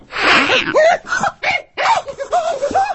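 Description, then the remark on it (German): A voice imitates an angry fat farm cat hissing grimly at mice in a hayloft: a sharp, breathy hiss, followed by a string of strained, snarling yowls and sputters over about three seconds. “Die dicke Hofkatze sitzt neben ihm und faucht die Mäuse grimmig an.”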